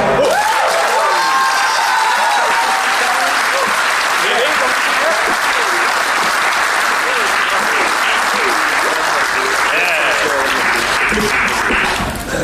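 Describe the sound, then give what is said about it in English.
A gig audience in Poland applauds steadily for about twelve seconds after being thanked in Polish, a dense, loud wash of clapping with scattered cheers and voices rising through it, then it starts to fade at the very end. “It's brilliant doing gigs in Poland because all you have to do is say thank you and you applaud us.”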